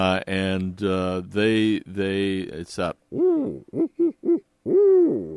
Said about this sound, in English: That's quite possible. But it may be that you're also hearing a portion of the great horned owl one, and they're more likely to take chickens because they're right. a larger owl. They're bigger.